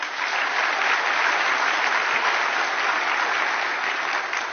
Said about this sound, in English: Let's give a round of applause again to our speakers.